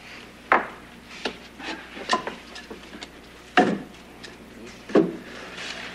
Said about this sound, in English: How about a fire? Think the fireplace works? Sure.